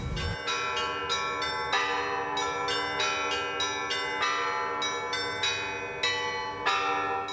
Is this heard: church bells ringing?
yes